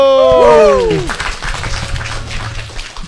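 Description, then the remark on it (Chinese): A brief sliding tonal flourish opens, then an audience in Hangzhou breaks into steady, moderately loud applause that carries on for a couple of seconds as a new performer is introduced. “那下面一位呢，是我们的新朋友了，我们掌声有请”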